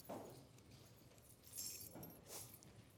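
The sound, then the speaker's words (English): Scattered metallic jingling from many sets of keys shaken at once by an audience, bright clinking bursts rising and fading over a few seconds, fairly quiet and diffuse like a crowd. “Everybody get out your keys. Would everybody take out your keys, please?”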